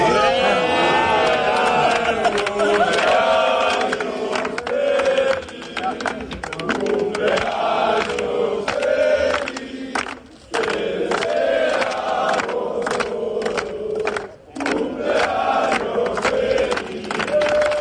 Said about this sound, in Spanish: Escuchamos ahora ya ese cumpleaños feliz.